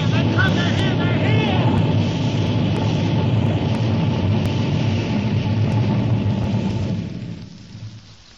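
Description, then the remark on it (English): A flying saucer descends through the sky over Washington, D.C. and hovers over the mall: a loud, dense roaring rumble with faint warbling whines on top, holding steady for several seconds before fading away at the end. “Burning down through the sky over Washington, D.C., hovering over the mall. Descending.”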